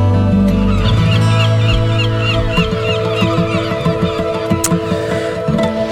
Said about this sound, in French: Les oiseaux, les vagues, tout ce qu'il faut pour bien se sentir à l'écoute de Radio Présence en ce temps d'été